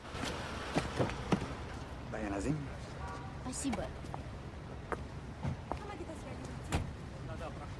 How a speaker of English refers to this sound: Nikolai parks the Mercedes up against Anna's bike, gets out and waves to the driver of another car pulling up behind